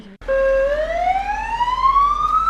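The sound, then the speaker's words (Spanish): A loud ambulance siren wails after a brief pause, its pitch climbing steadily in one long rising sweep over a low, constant rumble; an ambulance of the DYA base in Uribe Costa. “¿A dónde nos hemos ido? Nos hemos ido de ambulancias.”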